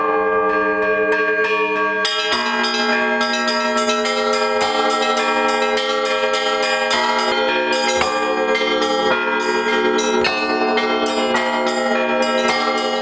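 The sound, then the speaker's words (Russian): Church bells peal continuously from the bell tower of a church in Gorodishche, eight bells cast in Voronezh, the largest weighing 850 kg and the smallest 3 kg, striking in overlapping rhythm at different pitches with long ringing tones, loud and full, with no voices. “Именно отсюда уже больше 100 лет возносится колокольный звон, который призывает каждого жителя к молитве.”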